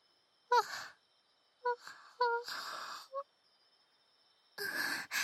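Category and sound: human body sound, a yawn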